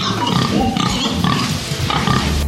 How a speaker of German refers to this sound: Hallo Almschweine. Was kriegen die jetzt zum Fressen? Die kriegen Gerste und Heublumen und Molke. Molke vom letzten Graukas machen.